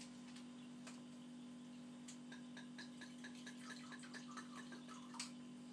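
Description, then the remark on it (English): A little wine being poured into a glass for tasting: a quiet trickle with small gurgles and clicks building over several seconds, above a steady low electrical hum, with no voices. “I'm going to pour a little bit of this.”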